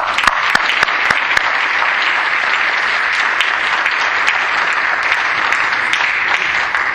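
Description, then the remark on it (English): Sustained applause from a sizable audience, dense clapping that holds steady and fairly loud throughout, with a few sharper individual claps standing out. “And on that, I want to express my deepest hakaras hatov, my appreciation, and I think we owe the two of them a tremendous round of applause.”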